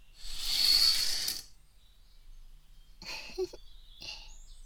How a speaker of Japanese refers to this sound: 今日もとってもいい天気ですよ。ほら、お日様もこんなに明るくて、鳥さんもチュンチュン鳴いてます。